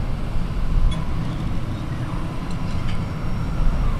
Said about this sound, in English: The beating heart of Kern County isn't some deafening sound of heavy industry. It's the softly clanking drone of thousands of oil pumps rhythmically cycling up and down.